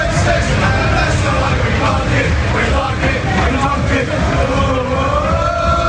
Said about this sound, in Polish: Pseudokibice londyńskiej Chelsea zagrodzili czarnoskóremu mężczyźnie drogę do pociągu, a gdy mimo wszystko próbował wejść do wagonu, wypchnęli go na zewnątrz. Skakali i krzyczeli przy tym, że są rasistami i są z tego zadowoleni.